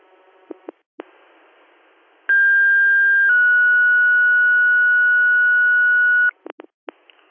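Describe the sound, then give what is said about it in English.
A two-tone fire dispatch page over radio, paging Wayland Fire crews to a carbon monoxide detector activation in the Town of Wayland: a short steady tone, then a longer slightly lower tone held for about three seconds, bracketed by brief clicks of radio keying and static. “Would you like another set of tones? Affirmative.”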